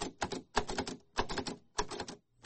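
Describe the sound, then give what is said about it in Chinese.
A braille typewriter in a classroom, used by a blind language professor at a New York college, clacks, its keys struck in quick clustered bursts with short pauses between each group, sharp and mechanical, with no voices. “他在课堂有一台盲人打字机，可以工作也可以写诗。”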